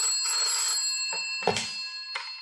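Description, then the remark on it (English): A telephone in an antique weapons shop rings with a bright, buzzy bell tone that sustains for a couple of seconds, followed by a few short clicks or bumps, moderately loud with no one talking. “Eric Masters was cleaning an antique pistol when the phone rang in his shop.”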